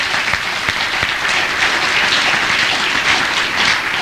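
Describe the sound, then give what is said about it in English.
An audience claps their hands unto the Lord in sustained, dense applause, many overlapping claps forming a steady wash of sound that holds evenly loud for several seconds. “Would you clap your hands unto the Lord for being able to do that?”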